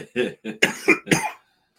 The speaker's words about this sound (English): Mike, you're making me cough again, bro.